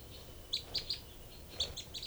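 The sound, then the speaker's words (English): Two birds trade short calls: the female gives a group of three or so high chirps, then a pause, and the second bird answers with a group of high chirps, clear against a quiet low hum. “3 and 4, then 3 and 5 responding.”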